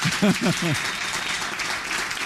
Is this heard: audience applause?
yes